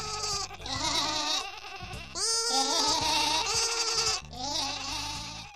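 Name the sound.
sheep bleating sound effect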